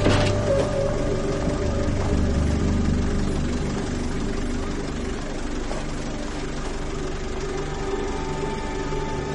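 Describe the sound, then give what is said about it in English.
A stopped taxi across the street idles steadily at moderate loudness, a low, continuous rumble with a faint harmonic hum that holds without revving for several seconds. “across the street, taxi stopped. Nobody getting in, nobody getting out.”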